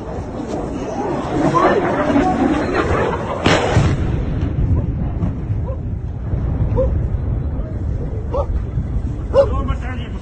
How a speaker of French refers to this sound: Le son d'un missile explosant non loin d'un groupe de civils attendant le bus, image diffusée sur NBC News. Ce jour-là, 17 personnes ont trouvé la mort lorsque des missiles ont frappé un immeuble d'habitation.